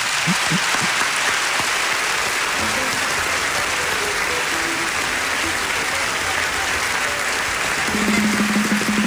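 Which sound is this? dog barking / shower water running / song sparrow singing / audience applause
audience applause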